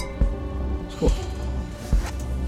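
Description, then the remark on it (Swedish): Glasses clink together three times in a toast, separate short knocks spaced about a second apart over a low steady hum, with no one talking. “skål för vår gemensamma framtid. Skål för genvägar.”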